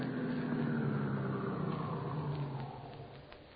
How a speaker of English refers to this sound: Shortly after midnight, the stolen car in which they had driven from Chicago pulled up in front of the spacious Victorian residence where their intended victim lived all alone.